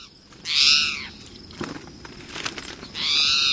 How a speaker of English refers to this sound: So, the next time you see a red-eyed, backward bunny-hopping bird that's calling like a cat, remember, it's not a robin. It's a spotted towhee.